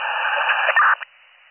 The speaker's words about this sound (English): I'm on my car radio. Every radio is static.